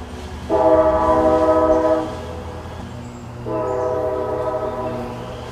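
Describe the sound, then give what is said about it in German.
A classic old railway sound representing Anchorage, Alaska, home of the Alaska Railroad: a train horn sounds two long, loud, chord-like blasts separated by a short pause, over a steady low rumble of rolling rail cars. No one speaks. “Das ist dieses ganz klassische alte Eisenbahngeräusch.”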